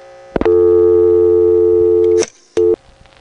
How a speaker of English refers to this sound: And there was that dial tone burst that I'd been waiting for.